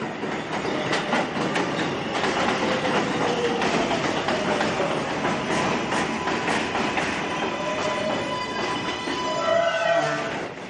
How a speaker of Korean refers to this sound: 많은 사람이 타고 내리는 뉴욕 지하철역.